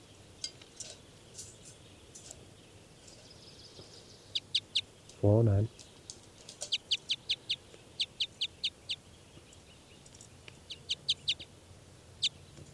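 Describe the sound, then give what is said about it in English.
Two birds, numbered 409 and 410, trade calls back and forth in a test recording, short high chirps in quick rhythmic bursts, with one louder, harsher call breaking in midway. The calls are clear over faint background hiss. “Now these are test recordings of birds 409 and 410.”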